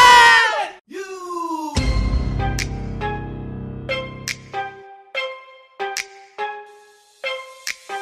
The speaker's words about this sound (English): Yell, everyone yell roll the intro. Ready? Roll the intro!